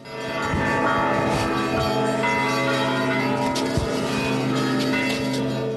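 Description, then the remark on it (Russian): Monastery church bells ring continuously in a loud, dense peal as a holy icon is carried in a procession through the monastery, their overlapping tones sustaining and blending throughout with repeated strikes layered on top, and no voices. “Святую икону под звон колоколов крестным ходом пронесли по монастырю.”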